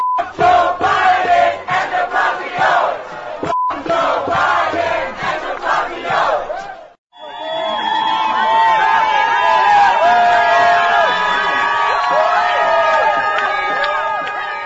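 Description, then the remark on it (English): A large crowd chants loudly in the street, rhythmic shouted phrases for several seconds, a brief pause, then a sustained roar of many voices calling out together. “And I do have to bleep this one, but you probably heard this particular chant before.”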